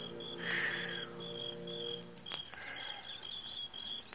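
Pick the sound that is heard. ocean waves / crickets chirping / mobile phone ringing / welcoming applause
crickets chirping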